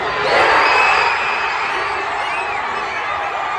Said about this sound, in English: Leon Draisaitl's won it! In game four for the Oilers, and the series is tied at 2. Now let's hear the crowd outside Rogers' place at Edmonton reacting.